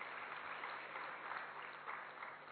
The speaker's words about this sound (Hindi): वाह, ताली बजाइए।